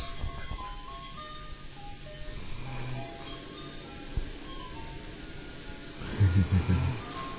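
An ice cream truck jingle plays in the veld, a tinny repeating melody over low background rumble, growing slightly louder with a few pulsing notes near the end.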